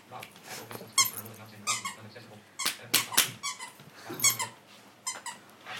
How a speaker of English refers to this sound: Now beat him down. Because that's what usually got to get the dog going.